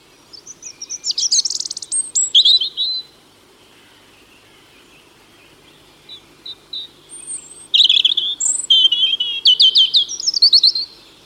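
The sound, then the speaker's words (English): A robin sings alone its loud territorial song in high, thin, warbling phrases: a bright burst, a pause, a few scattered notes, then a longer run of rapid, varied trills and whistles. “Robins are also common in parks, scrub and woodland, making their presence known with a loud, territorial song.”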